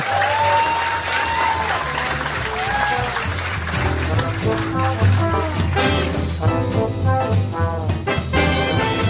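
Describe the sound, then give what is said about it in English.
An audience applauds steadily for several seconds, a dense wash of clapping with some cheering and indistinct voices mixed in, staying loud throughout. “Yeah, you can clap if you want.”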